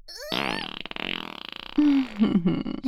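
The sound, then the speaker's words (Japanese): A long, loud fart sputters and buzzes for about a second and a half, then trails off as a voice makes low, wordless murmuring sounds. “あ、私もへが出るわ。”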